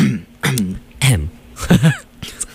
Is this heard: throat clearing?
yes